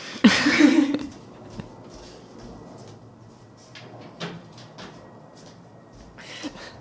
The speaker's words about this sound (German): Ganz wichtig ist am Anfang, wenn man Fenster und Tür auf hat, eins von beiden schließen. Okay, dann machen wir das gleich.